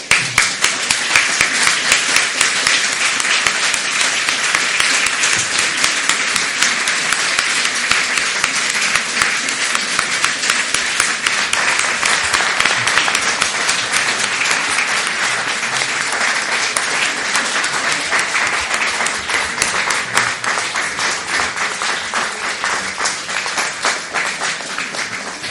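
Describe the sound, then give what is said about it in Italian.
Sustained, dense applause from a large audience for Massimo Recalcati, many hands clapping steadily and loudly for over twenty seconds without letting up, with no voices standing out. “Il lungo applauso è già testimonianza anche, direi, della capacità proprio divulgativa di Massimo Recalcati.”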